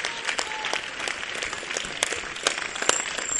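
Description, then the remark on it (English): A church audience claps steadily, a dense patter of many hands with sharp individual slaps standing out, holding at an even level throughout with no voices over it. “It's good that you are clapping.”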